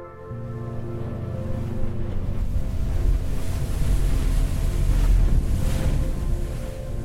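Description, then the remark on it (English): Steady ocean surf and gusting wind roar around a moving boat heading back to the mainland from Santa Cruz Island in fog, with a low engine-like hum underneath; continuous and fairly loud, no voices. “On the boat heading back to the mainland, I look back at Santa Cruz Island as it disappears in the fog behind me.”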